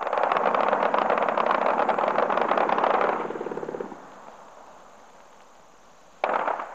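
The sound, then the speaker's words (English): A long, loud stream of rapid fire from an MG-34 light machine gun, nearby, crackles for about three seconds, then trails off into a faint rumble before another short, sharp burst cuts in at the end. “The sky is crossed and recrossed by tracer, and the distinctive sputter of an MG-34 light machine gun is quite near us.”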